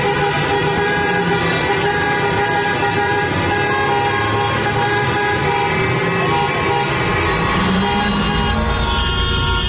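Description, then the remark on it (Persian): A dense, continuous blare of many car horns honking together as protesters sound their horns in a street protest at Azadi Square, Kerman, Iran; overlapping tones sustained without pause over the low rumble of street traffic, loud throughout, with no voices standing out. “بله، همینطور در همین رشت و اضافه بر اون در شهرهایی مثل کرمان و سنندج و مشهد و محلاتی مثل صادقیه و بولوار کشاورز تهران هم معترضین با به صدا در آوردن بوق ماشیناشون به استقبال نظام مقدس رفتن تا یه وقت یادش نره که چیزی تموم نشده.”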